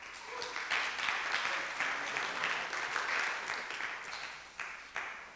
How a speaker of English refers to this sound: Thank you. Thank you very much. And I appreciate the applause, by the way. It's always nice to hear.